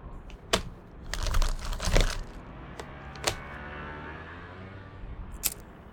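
Someone rummages through a car's glove compartment for a lighter: a burst of clattering and rattling small objects, then a few scattered sharp clicks and knocks, with a low hum underneath and no voices.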